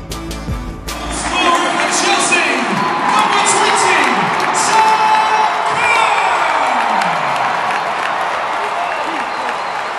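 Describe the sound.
A huge stadium crowd of over 77,000 at Wembley for the FA Cup final, Chelsea against Manchester United, roars and cheers continuously, a dense wash of voices, whistles and applause at steady high volume, with scattered shouts rising out of the din.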